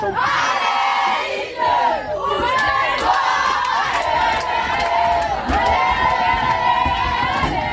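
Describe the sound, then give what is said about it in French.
A loud crowd of young sports players cheering and shouting together on the return boat on a Saturday evening around 8 p.m., voices overlapping in a continuous rowdy din, punctuated by sharp claps or bangs throughout. “Et devinez ce qui se passe quand tout le monde se retrouve sur le bateau du retour samedi soir vers 20h. Eh bien, ça donne ça.”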